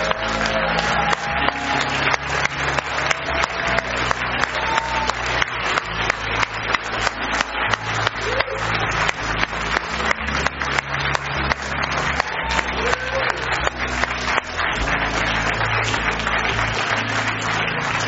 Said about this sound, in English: And everybody else is going to cheer for you. Can you guys cheer for these guys?